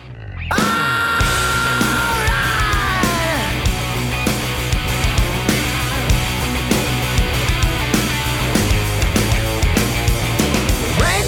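A loud, dense rock track plays at a fast tempo, with driving drums hitting in a steady rapid beat beneath thick distorted guitars and heavy bass, filling the whole clip.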